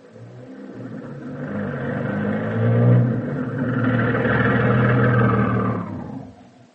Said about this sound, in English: It's the bus at last. The original plan had been for a trailer, but the size of the classes and of some of the congregations in the smaller communities had suggested that a bus, a good-sized bus, would prove more practical.